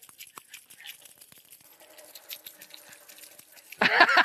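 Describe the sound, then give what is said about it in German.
Bunches of keys, taken out to make a bit of music, jingle and clink in light, irregular bursts of bright metallic tinkling, building into a louder, busier shake at the very end. “Vielleicht nehmen wir Schlüssel raus und machen wir ein bisschen Musik.”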